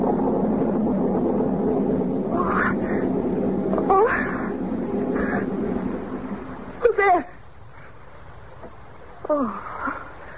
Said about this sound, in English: Oh, it was only thunder.